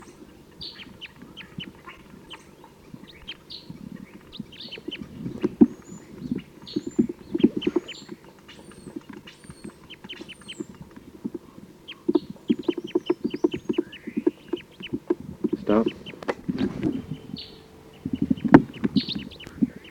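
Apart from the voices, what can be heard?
wild birds calling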